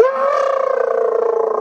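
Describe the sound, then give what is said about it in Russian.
A voice lets out a single loud, sustained roar, imitating a fearsome monster, with a rough, rapidly pulsing vibrato held steadily for under two seconds and no other sounds. “И они страшно-страшно ревут. И Кришна, как ревут?”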